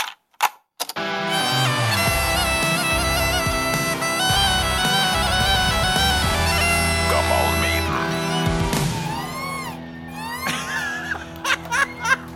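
A bagpipe plays a steady, buzzing drone under a reedy melody, joined by bright electronic iPhone ringtone tones played from a cassette, a bagpipe and iPhone duet of a jingle. The blend runs loud for several seconds and then breaks into a few short, chirpy bursts.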